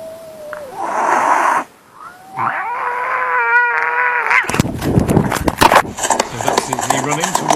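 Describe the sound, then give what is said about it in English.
Two cats in fields yowl at each other, recorded by a camera worn by one cat: loud, drawn-out yowls with wavering, rising and falling pitch fill the first few seconds, then give way to a burst of rustling, scuffling movement. “You can see right away there, there's a pair of eyes from another cat.”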